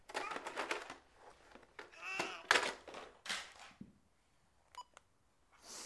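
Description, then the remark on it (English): Two quick electronic phone keypad beeps ring out near the end, after a stretch of clattery rustling and handling noise with some voice sounds mixed in. “what's with the phone?”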